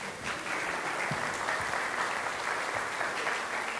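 Audience applause welcoming a child called up to help with a story about pigs, a dense, steady patter of many hands clapping at once that holds at an even, fairly loud level for several seconds with no voices over it.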